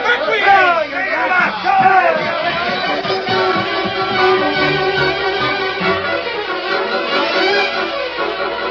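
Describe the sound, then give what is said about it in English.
In a Lone Ranger story, an agitated crowd roused by Cobb Morgan into a lynch mob murmurs and talks over one another in a cafe in Bear Ridge where the bartender was killed, a dense, steady babble of many overlapping voices that stays loud and unbroken throughout, with no single voice standing out. “Cobb Morgan roused crowd into lynch mob in cafe where bartender was killed.”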